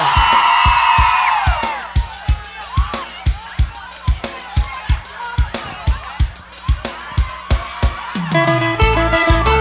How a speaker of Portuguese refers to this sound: Beleza? Cadê o grito da mulherada?